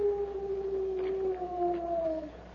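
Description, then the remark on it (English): A single drawn-out owl-like call from outside, the Lone Ranger's signal to Tonto, a steady mid-pitched hoot with a faint overtone, sliding slightly lower for about two seconds before it stops, heard alone over a low background hum. “It's an owl outside.”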